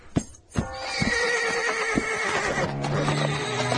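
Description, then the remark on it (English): A female horse whinnies loudly and at length, its neigh rising and wavering with harmonic tones, preceded by a couple of sharp thumps or hoof knocks; no talking. “Easy, horse, easy.”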